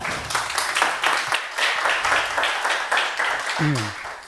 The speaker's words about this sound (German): Herzlichen Applaus